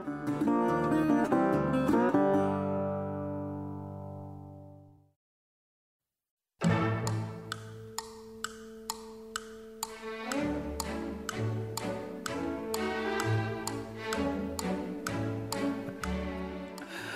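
A sustained chord fades to a brief silence, then a lively orchestral tune starts with crisp, evenly spaced ticking clicks like a clock keeping time over the melody.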